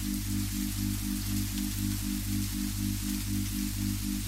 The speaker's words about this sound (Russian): Когда вы услышите эти слова, сопровождаемые шумом дождя, ваш сознательный ум активизируется, и вы поймете, что вы спите, и сможете сознательно участвовать и управлять своими сновидениями.